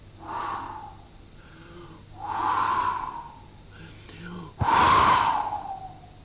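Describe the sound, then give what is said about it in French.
A storyteller imitates the wolf from the Three Little Pigs blowing hard at the little pig's straw house: three long, breathy huffs, the last one loudest and most forceful, each a rushing whoosh of air with short pauses between. “Le loup s'est mis à souffler.”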